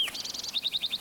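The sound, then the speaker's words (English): A sparrow sings alone from a lodgepole pine at the edge of a meadow, 25 to 30 feet off the ground: a short high opening note, a rapid buzzy trill, then five evenly spaced bright chirps, all high-pitched and moderately loud. “I think it's sparrow number two.”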